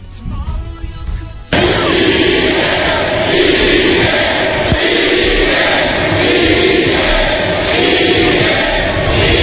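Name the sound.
stadium crowd chanting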